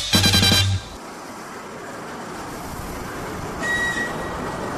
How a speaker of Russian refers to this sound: Электропоезд на Воронеж прибывает на второй путь.